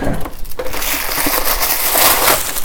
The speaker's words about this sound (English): I am slow, but I'm enjoying it, the chopping. Don't you like chopping? It's so cool.